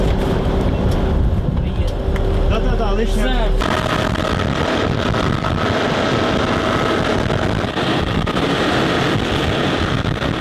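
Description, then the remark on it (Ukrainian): A heavy command-staff military vehicle, supplied by Poland and carrying Ukrainian soldiers, drives along, its engine roaring in a loud, steady rumble, with wind buffeting and rattling throughout and muffled voices partly buried under the noise. “Зараз ми рухаємося з бійцями Збройних сил України на командно-штабній машині, яку передала Польща”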